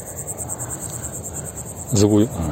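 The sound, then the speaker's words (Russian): A cricket chirps loudly and steadily in rapid, evenly spaced pulses, continuous throughout, with a brief burst of a human voice near the end. “Вот слышите, да, какой сверчок?”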